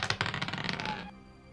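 Dice rattle and tumble across a surface in a quick burst of sharp, clattering clicks lasting about a second, then settle into near silence. The roll is a test for a long rest that needs 18, 19 or 20 with a survival modifier added, and it comes up 18. No one speaks.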